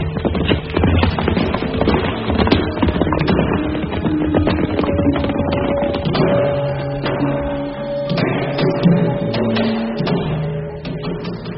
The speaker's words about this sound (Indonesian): dia segera naik kuda dan mengikuti Pangeran Jipang pulang ke istana